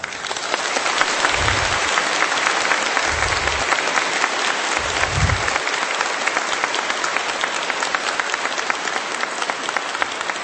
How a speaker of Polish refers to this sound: Witamy i pozdrawiamy wszystkich słuchaczy Radia Maryja. Czynimy to uśmiechem na twarzy, radością w sercu i gorącymi, rzęsistymi oklaskami.